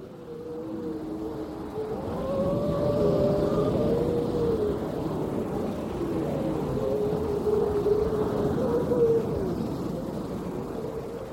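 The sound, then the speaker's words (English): Seals howling in long, wavering, overlapping moans that rise and fall, steady for the whole stretch, over a constant low rumble of wind or water, heard in late September pupping season from a Hebridean Whale and Dolphin Trust vessel anchored off the island of Mingalay. No one speaks. “Suddenly we heard the howling of seals.”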